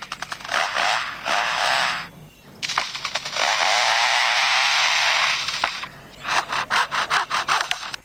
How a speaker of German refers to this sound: The sounds of foresters and their chainsaws working nearby.